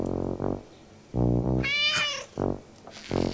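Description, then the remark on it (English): A pet cat named Ollie meows several times in a row, drawn-out and fairly loud, with one higher, whining cry in the middle; the calls are clear with no talking. “Sarah's cat Ollie was very happy that Caillou had come for supper.”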